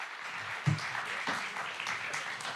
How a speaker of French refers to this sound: Et vous pouvez l'applaudir pour qu'il vienne sur scène.